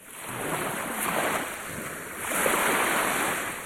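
ocean waves

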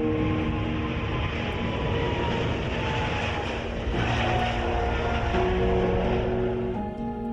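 airplane taking off

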